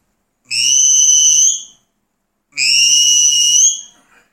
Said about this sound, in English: Okay, now on to the look-back whistle, which is different. You hum and whistle at the same time.